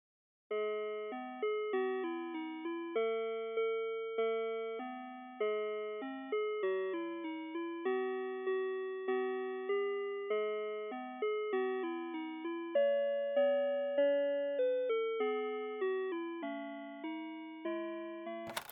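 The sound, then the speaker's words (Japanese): A telephone on-hold chime melody plays while a caller is on hold during an insurance call, a steady electronic tune of bell-like tones in an even, repeating rhythm, clear and moderately loud with no voices over it. “それではこれより保険適用できるかを確認いたしますので電話を保留にいたします。”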